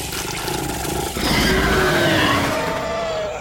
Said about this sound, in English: Its body was thin but muscled, contorted in ways that should have rendered it unable to move. Yet it did, and with a lethal grace. The thing retracted its barbed tongue as it approached, moving its cavernous mouth over Wesley's face as it growled.